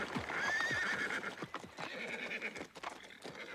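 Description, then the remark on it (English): A horse whinnies loudly, a high wavering neigh, over a steady run of clip-clopping hooves that continues throughout as horses pull a carriage ever faster at night, fairly loud. “As the horses went faster, I closed my eyes in fear.”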